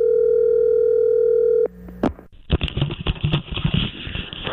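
A loud, steady telephone tone hums on the line for over a second as a call is placed to Tiger Woods, then cuts off into a few sharp clicks and rough, crackling line noise as the call connects.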